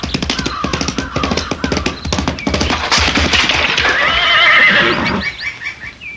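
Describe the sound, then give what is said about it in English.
A horse's hooves clop in a quick, steady rhythm as it is spurred toward a high stone wall, then the horse lets out a loud, wavering whinny before the sound tapers off. “Before I could move, she clapped spur to a horse and headed for a high stone wall.”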